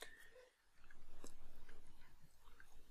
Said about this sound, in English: just take another little sipping of water